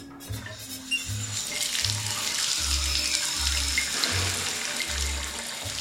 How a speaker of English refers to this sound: Right now, I'm pouring water on her fur. I'm just getting her a little bit wet.